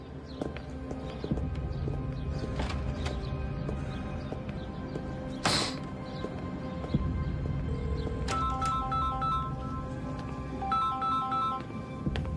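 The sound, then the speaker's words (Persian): A phone ringtone starts partway through, a bright, repeating electronic melody that rings in two close bursts over steady clip-clopping hoofbeats and a busy background. “منتظر زنگتم.”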